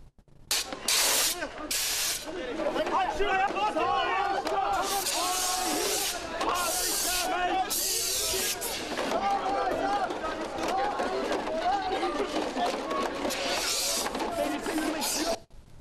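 protesters chanting

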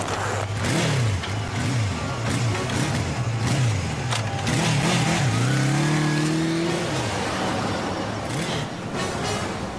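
car engine revving

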